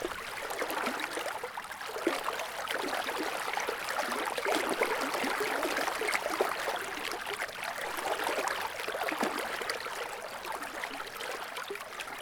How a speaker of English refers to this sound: The stream itself is quite dark. And normally it's fairly narrow and you can just walk right along the banks and peek in through like little parts in the salal bushes. But today it's quite wide with the rains.